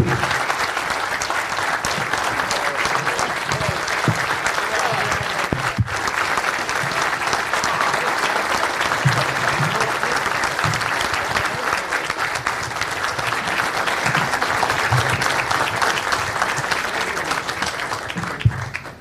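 Sustained audience applause, a dense, steady wash of many hands clapping at an even loudness for about nineteen seconds, with no voices standing out.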